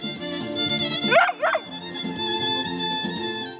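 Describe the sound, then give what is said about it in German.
A dog lets out two quick, high yelping barks over steady, tuneful street music played on a reedy instrument by a street musician in a busy shopping street in Novi Sad, Serbia, on a cold December morning; the music pauses briefly under the barks and then carries on. “einen offenbar musikalisch begabten Hund, der immer wieder Pavel ungewollt unterstützt”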